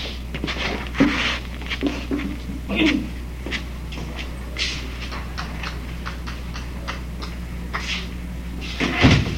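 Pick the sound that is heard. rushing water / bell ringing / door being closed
door being closed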